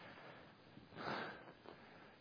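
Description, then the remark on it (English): A soft, breathy sniff through the nose, followed moments later by a shorter, fainter one, heard quietly with no talking around it. “It's not the cold which disturbs you. Sniffing.”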